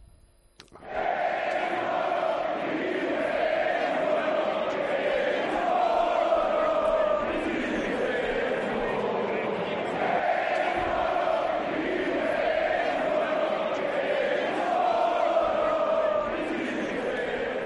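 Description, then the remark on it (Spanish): Hundreds of Atlético de Madrid football fans chant together outside the Metropolitano stadium after the team bus arrived, a loud, continuous mass of voices repeating the rhythmic, sing-song phrase "Vinicius, eres un mono" again and again for the whole clip. “Cientos de aficionados, repito, a las puertas del Metropolitano, cantando Vinicius, eres un mono.”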